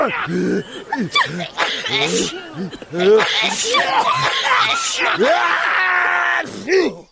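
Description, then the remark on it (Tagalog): A rapid series of loud coughs and sneezes, sharp bursts mixed with throaty, groaning vocal sounds, continuing almost without pause for several seconds. “Para maiwasan ang hawahan, takpan ang inyong ilong o bibig kapag ubo”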